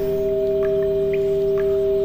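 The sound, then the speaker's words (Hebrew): A steady, sustained pure tone hums without pause, layered with a higher ringing overtone like a crystal singing bowl, while faint brief chirps flicker above. No one speaks. “בעזרת תדר אהבה 528 הרץ, בעידוד קערות הקריסטל, המציאות החומרית נעלמת ונשאר צליל.”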